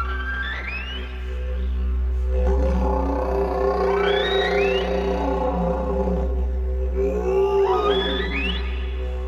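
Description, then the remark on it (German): A didgeridoo's deep, steady drone holds underneath while rising and falling high swoops glide above it, mimicking the song of whales that pass along the coast of southern Australia, in three sweeping phrases, loud and with no talking. “Sogar den Gesang der Wale, die im Süden Australiens an der Küste vorbeiziehen, kann man auf dem Didgeridoo nachmachen.”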